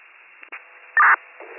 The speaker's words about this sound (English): How do you copy? Didn't copy. It's all static.